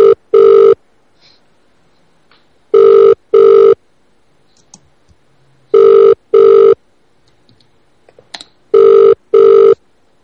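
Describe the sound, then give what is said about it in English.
Ringback tone of an outgoing phone call: four loud double-burst rings at steady intervals, each pair of short buzzy tones separated by a couple of seconds of near-silence, with no voices. “if he picks up.”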